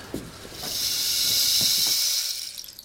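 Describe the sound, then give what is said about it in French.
A rainstick (palo de lluvia) from the Amazon, a musical instrument that reproduces the sound of rain: its steady rushing hiss swells and holds for a couple of seconds, like a shower of fine pellets trickling through a tube, with a few soft taps underneath before it fades. “C'est un instrument de musique qui reproduit la pluie, qui a le bruit de la pluie.”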